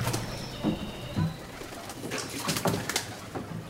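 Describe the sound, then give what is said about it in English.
Birds call along a canal in Venice during a gondola tour, with soft pigeon-like cooing and scattered chirps over a steady ambient background, not very loud. “There are some channels you have a lot of birds singing.”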